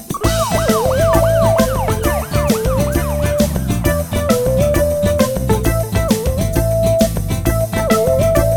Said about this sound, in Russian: Отошел на 2-3 шага, сигнализация включил. Если тронешь ишака, то так орёт, что нету сил.